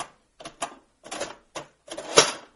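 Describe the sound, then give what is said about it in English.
A typewriter tabulating, its motor winding up the spring: several short bursts of mechanical clatter and whirring, then a louder run ending in a bright ring of the carriage bell. No one speaks. “And this one has a great bell. See, everything about it sounds big. I'll tabulate on it.”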